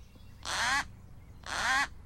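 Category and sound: bird, hawk call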